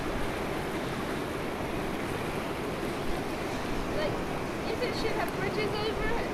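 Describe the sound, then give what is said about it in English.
A river flows with a steady, loud rush of churning water, an unbroken hiss that holds even for the whole stretch, with faint voices briefly surfacing toward the end. “It's actually a river.”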